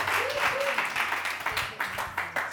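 A steady round of applause from a group, dense overlapping claps sustained throughout, with a few faint voices mixed in.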